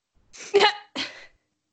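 A single sneeze in two quick bursts, a sharp loud explosion followed by a softer breathy release, standing alone against silence.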